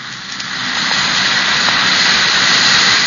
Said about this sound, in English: That's the Alka-Seltzer fizz. It's the lively, cheery, sparkling fizz that you know so well.